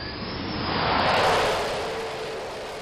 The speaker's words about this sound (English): Standing on the fantail of the JFK provides a fantastic view of planes landing on this great vessel.